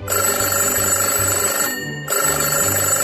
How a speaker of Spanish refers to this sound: ¡El teléfono!